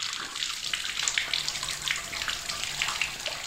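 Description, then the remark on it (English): Water runs steadily from a tap for a few seconds, a continuous splashing hiss with small fluctuations and no voices. “A recent day without it, following a burst pipe in my neighbourhood, made me realise just how often I turn on my taps.”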